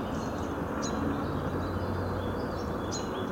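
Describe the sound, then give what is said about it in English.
A steady roar of traffic from Interstate 495 fills the background while a few faint bird chirps and calls sound out above it, with no one speaking; recorded in the morning on Lockwood Drive by Spruce Pond in Franklin, Massachusetts. “We're closer to I-495, so the traffic's a little bit more noisy than it usually is.”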